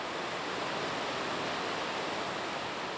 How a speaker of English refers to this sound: You're hearing water rushing over the Maple River Dam, which holds back nearly 43 acres of water in Lake Kathleen. The dam is about 18 feet high and in rough shape.